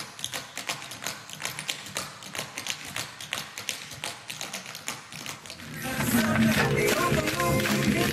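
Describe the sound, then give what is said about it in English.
Tap shoes strike a stage in quick, crisp, rhythmic clicks for several seconds as the Jerk dance group tap dances at the Andy Williams Moon River Theater in Branson, Missouri, then a louder, busier wash of sound swells up and covers the final stretch. “Before that, we heard the Jerk dance group tap dancing at the Andy Williams Moon River Theater in Branson, Missouri.”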